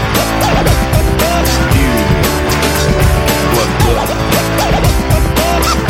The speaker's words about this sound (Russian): Дамы и господа, заводите свои моторы.